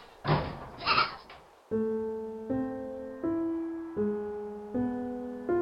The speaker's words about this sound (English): That night, after everyone settled into bed, the man, his wife, his four children, his mother, and his father, it was extra noisy in the tiny one-room house. What with the goats bleating and jumping on the furniture, no one could get a wink of sleep.